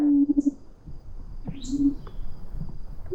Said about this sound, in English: And we have specialized equipment to do so. And when you do end up listening into the plant stem, you hear songs that you would imagine coming from frogs and whales, not tiny little half-centimeter insects.